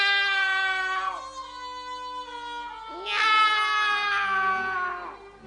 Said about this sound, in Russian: Кошки, кошечки, идите ко мне! Этого еще не хватало соседских кошек звать.